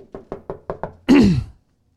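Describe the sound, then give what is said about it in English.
Five quick, evenly spaced knocks rap on a door during door-to-door visiting, distinct, followed right after by a loud, brief wailing cry from inside the door that rises and falls before silence. “I knocked on a door”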